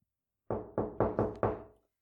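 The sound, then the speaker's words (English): Five firm knocks on an unlocked wooden door in quick succession, slightly uneven in rhythm, fairly loud, with a brief hollow ring fading after the last one. “Come in. The door's unlocked.”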